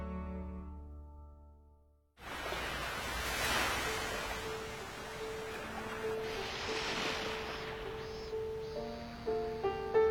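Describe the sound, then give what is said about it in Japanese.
After a short stretch of soft tones, a steady wash of ocean waves rolls in and swells continuously, with faint sustained musical notes drifting over the surf. “違いは海が見えるとこくらいか。”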